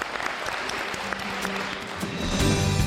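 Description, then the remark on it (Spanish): An audience at the Instituto Cervantes claps steadily during the radio show Buenos Días Madrid, a dense crackle of many hands that swells a little louder toward the end, with faint voices mixed in underneath. “Y yo creo que se merecen también un aplauso, ¿no, chicos?”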